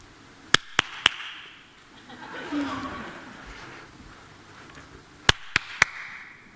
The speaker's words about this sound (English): Now, we're going to do a little demonstration, right? You have to close your eyes, and you have to point where you hear me clapping, all right?